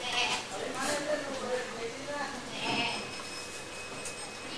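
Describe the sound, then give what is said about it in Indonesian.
Goats bleat in a string of wavering, nasal cries over steady outdoor background noise, with voices also present in the scene. “Duduk, itu kambing-kambing. Itu kambing-kambing.”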